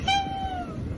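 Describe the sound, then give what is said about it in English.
A single drawn-out meow from a little ginger tabby cat, bright and slightly squeaky, held for about half a second before trailing off, against a low background rumble. “it's a cat going, wow.”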